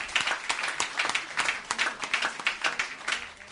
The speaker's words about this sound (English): So thank you. If we could clap hands for all these children, they did very well.